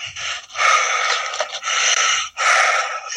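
Heavy mouth breathing, loud, in long rasping breaths separated by brief pauses, with no talking.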